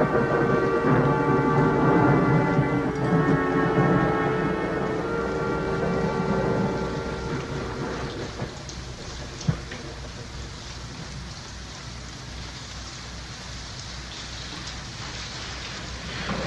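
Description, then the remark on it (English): Steady rain hisses throughout while a deep, rolling rumble of thunder fills the first half and gradually fades, leaving just the rain with one brief sharp crack midway. “Nothing. Just a little rain.”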